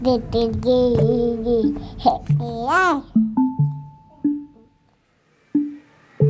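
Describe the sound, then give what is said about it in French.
A baby babbles up close, running through cooing, sing-song syllables with a rising squeal midway, then trailing off into short separate coos between pauses. “je vous propose de vous mettre à l'écoute des bébés.”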